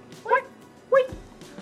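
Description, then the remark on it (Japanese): Two short, bark-like yelps about half a second apart, clear, most likely a person's voice imitating a dog barking rather than a real dog. “すごいね、これだけで15秒ぐらい吠えしか言ってないから もう何のラジオってなっちゃうよ。”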